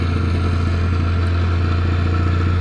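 A plate compactor drones steadily as it compacts white sand on a construction site in the Veluwe, making a sand bed for paving. Its engine gives off a loud, constant low-pitched hum with a fast rattling pulse layered over it, and there are no voices.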